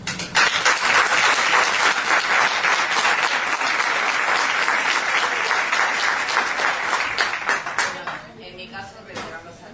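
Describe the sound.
Sustained audience applause, a dense crackle of many hands clapping at steady loudness for about eight seconds, then thinning out and fading as a voice begins to speak.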